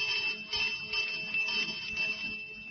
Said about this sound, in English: Now, why is there nobody about? Because you asked to ring this bell.